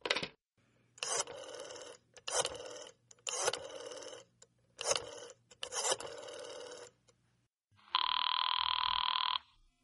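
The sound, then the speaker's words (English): A telephone bell rings in five short, evenly spaced bursts, loud, followed by a longer steady electronic buzzing tone, as Gildersleeve calls the Judge in The Great Gildersleeve radio show. No one speaks. “I think I'll call up the old goat.”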